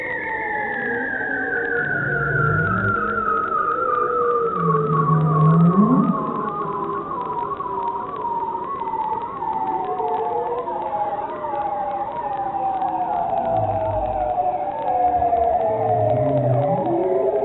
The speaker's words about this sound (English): Okay, here's the bearded seals. It's about 44 seconds. Here we go.